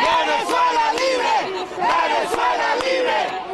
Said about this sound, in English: That's where protesters chanted Venezuela Libre outside the Venezuelan embassy.